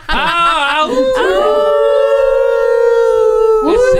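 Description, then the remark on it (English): A person howls like a wolf at a window at 10:30, loud: a few quick wavering yips lead into one long, sustained howl that holds steady for a couple of seconds before breaking off. “It's a 10:30 howl. I'm just howling at the window.”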